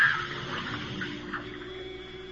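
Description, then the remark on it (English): A razor plunks into bath water in a bathtub, then soft, steady sloshing and trickling of water continues at moderate volume, with no voices. “Oh, no, not in the water”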